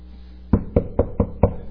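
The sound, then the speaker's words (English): Five sharp knocks on a wooden surface come in a steady, slightly quickening rhythm after a brief quiet pause. The hits are distinct and fairly loud, with no voices. “So you knock on wood to wake up the gods to hear your prayers.”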